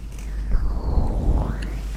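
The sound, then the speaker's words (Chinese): A steady wash of ocean waves with a rumbling low end and hissing spray, swelling slightly a few times over two seconds, with no voices present. “什么声音啊？是海浪的声音啊！”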